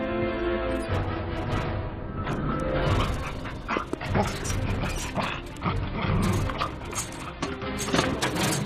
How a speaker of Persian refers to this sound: اون سگه نجاتم داد. اون سگه شماست؟